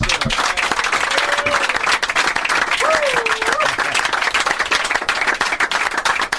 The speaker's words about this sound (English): On behalf of all the ranch hands, we just want to give you a big round of applause.